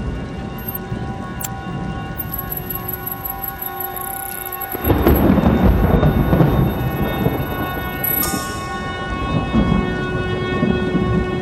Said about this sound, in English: We were caught in a series of thunderstorms from which there appeared to be no escape. We were completely lost somewhere in mid-Tasman.